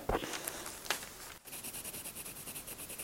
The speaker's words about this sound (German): Da gibt es in meinem Kinderzimmer immer das Geräusch vom Stift, wie er auf das Papier drauf geht.